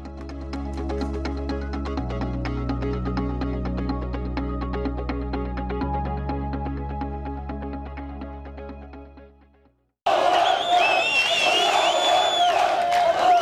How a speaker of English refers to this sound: Hundreds of Palestinians have been dancing, cheering, and celebrating in the streets after Israel removed railings and an overhead metal bridge it recently installed near a contested Jerusalem holy site at the demand of Muslim protesters.